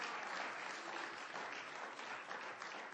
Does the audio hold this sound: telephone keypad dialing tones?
no